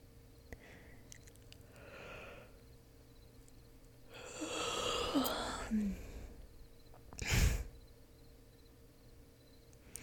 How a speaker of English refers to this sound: Hey, I only yawned because you yawned. They're contagious, you know.